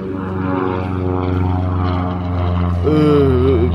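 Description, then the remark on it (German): A propeller airplane, wheels already extended and flying very low, drones steadily on its landing approach to the other runway of an airport, a loud, low, even engine hum with layered harmonics; near the end a higher wavering whine rises over the rumble. “Der Flieger ist im Anflug. Der geht jetzt runter.”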